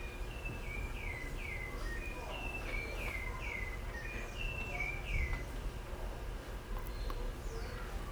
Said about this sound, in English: Bird song. Canção dos pássaros. Who wouldn't like to sing like that? Quem que não gostaria de cantar assim?